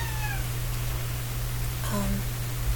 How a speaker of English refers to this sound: Please ignore the cat.